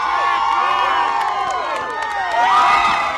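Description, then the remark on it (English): A large crowd at a 2005 ice fishing festival cheers and shouts as former Minnesota Governor Tim Pawlenty leaps into freezing water, many overlapping voices whooping in a dense, sustained roar with scattered claps, swelling louder near the end. “A crowd cheered Pawlenty at a 2005 ice fishing festival as he leaped into freezing water.”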